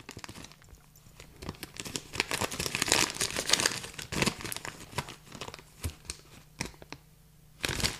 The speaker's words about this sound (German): Aber mal gucken, ob ich die Tüte heute überhaupt aufkriege. Sieht so aus, als ob ich sie nicht aufkriege. Okay, also rein theoretisch würde ich jetzt, wenn die Tüte mich lässt, ich krieg sie nicht auf.